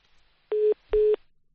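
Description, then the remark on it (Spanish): Two steady electronic telephone tones, each lasting about a fifth of a second with a brief gap between, sounding alone over a faint hiss with no talking. “Vamos a ver si es el teléfono o es una aparición.”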